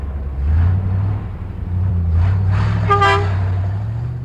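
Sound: truck pulling up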